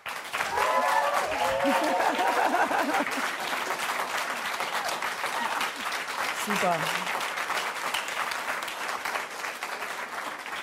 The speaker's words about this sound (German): Das ist total spontan und nicht geprobt. Vielen Dank für diesen tollen Applaus.